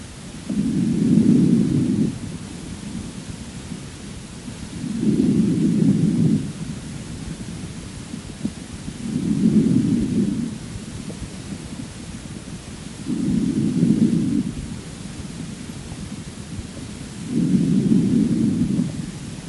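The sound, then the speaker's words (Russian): Normal vesicular breathing heard through a stethoscope on the right side below the angle of the scapula of a patient with left-sided exudative pleurisy: five soft, low, rumbling whooshes at a steady pace about every four seconds, each lasting over a second, with quiet pauses between and no talking. “Справа, ниже угла лопатки, выслушивается нормальное везикулярное дыхание.”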